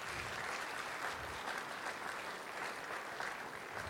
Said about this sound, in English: You can give them one more round of applause here.